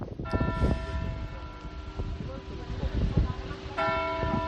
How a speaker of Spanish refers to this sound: ojo porque el reloj suena puntualmente una vez cada 15 minutos. Y lo peor, John, es que cuando son las 12, porque suenan 24 campanadas como esta, suenan 12 campanadas, hay un descanso de 30 segundos y luego vuelven a sonar otra vez las 12 campanadas.